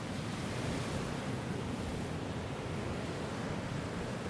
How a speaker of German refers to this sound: Ein kalter, nasser und windiger Februartag auf der dänischen Ostseeinsel Bornholm.